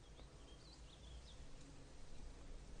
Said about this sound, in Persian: هیچی. من صدای وزوز میشنوم. آره، یه مشت آدم که وزوز میکنن از اون طرف میاد. وزوز؟ کی وزوز میکنه؟